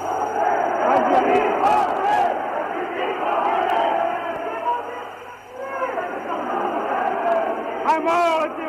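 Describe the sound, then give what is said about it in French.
A dense angry crowd shouts and roars continuously in the streets of Algiers at the Place du Gouvernement, where a few armoured cars are stationed, many voices overlapping in loud, agitated yelling that surges and briefly dips midway before swelling again, with a steady low hum beneath. “C'est en passant place du gouvernement, où sont installées quelques automitrailleuses, que la colère de la foule éclate.”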